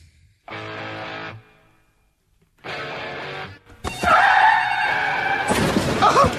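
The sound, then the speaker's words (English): A car crash sound effect: two short, harsh screeching bursts separated by a pause, then a long, loud, chaotic stretch of crunching and shattering with a wailing tone, ending in a sharp impact. “Let's get to the car wreck.”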